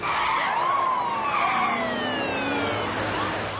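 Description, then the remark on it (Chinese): A police car siren wails with rising and falling tones over a steady rumble of vehicle noise, loud and continuous throughout, with no voices; police cars are escorting a bus through a city intersection toward the airport. “前面引路的警车都拐了过去，然而大轿车却没有，它并没有开向机场。”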